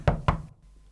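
Two firm knuckle knocks on the wooden front door of a terraced house, which has no doorbell or knocker, evenly spaced, followed by a brief quiet stillness.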